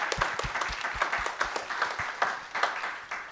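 A crowd applauds its panelists at the end of a panel discussion, steadily, with many overlapping claps forming a dense, even patter of moderate loudness and a few sharper individual claps standing out, with no speech.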